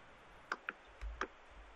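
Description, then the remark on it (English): A few quiet, sharp computer mouse clicks, about three of them, come in irregular succession with a soft low thump between them, as someone clicks 'locate providers' on a vaccine appointment web page. No one is speaking. “Shall I click on locate providers?”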